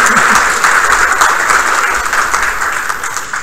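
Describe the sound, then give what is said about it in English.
Steady, loud applause from an audience thanking a speaker, a dense wash of many hands clapping that holds evenly throughout with no voices rising above it. “Thank you, and out of respect for formal protocol, I know we've just given you a round of applause”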